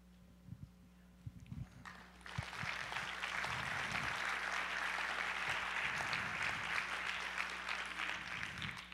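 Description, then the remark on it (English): An audience breaks into applause after a couple of seconds of scattered low thumps, the clapping swelling into a steady, dense wash that holds loudly to the end. “Appreciate your applause.”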